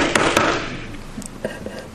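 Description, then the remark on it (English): Two quick, sharp knocks in close succession, like someone banging on the door of a house, followed by a few faint softer taps. The knocking is fairly quiet, with no voices. “And so he makes his way up to the house, and he... This is not very loud. Anyway, he bangs on it.”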